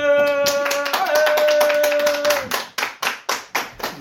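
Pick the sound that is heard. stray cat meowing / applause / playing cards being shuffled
applause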